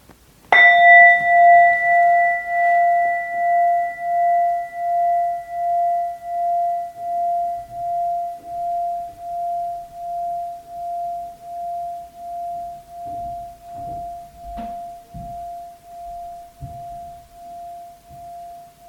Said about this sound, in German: Wir hören auf den Klang des Gongs, wie er verklingt.